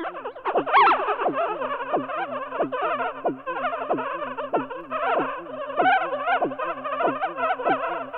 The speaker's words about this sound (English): Wow. Sounds like insects buzzing. Maybe old electronics gone haywire. Wait, what you're really hearing is a brain during a seizure. Each one of those yips and yaps represents thousands of neurons firing together in an epilepsy patient's brain.